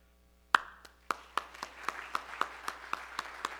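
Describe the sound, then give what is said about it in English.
Audience applause for standing Army veterans and currently serving Army members: after a moment of quiet, a crowd breaks into steady, rhythmic clapping, sharp claps falling at an even pace with a soft wash of overlapping claps between them. “And if your branch is called, if you'll just stand up and then we'll applaud you, and then you can sit down and we'll go into the next branch.”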